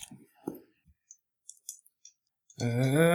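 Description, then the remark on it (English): Dice are rubbed together in a cupped hand, clacking and rattling softly in a scatter of light irregular clicks, before a voice begins speaking at the end. “Rubbing your dice in the day.”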